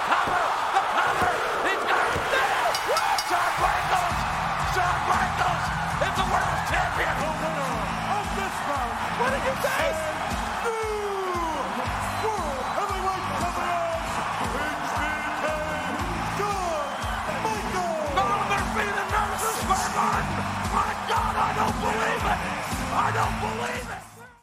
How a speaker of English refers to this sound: That is a huge pop from that crowd. I think they were in Madison Square Garden for that. Mm. And it's a huge, huge pop. I mean, that building comes unglued, as JR would say.